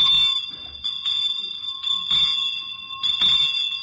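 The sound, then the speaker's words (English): A bright street handbell of the kind heard on streets around Christmas time rings repeatedly, each shake bringing a fresh clang over a steady, shimmering metallic tone that never fully dies away. No voices. “And now this next bell is one you often hear on the streets around Christmas time.”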